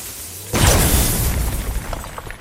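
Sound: bomb explosion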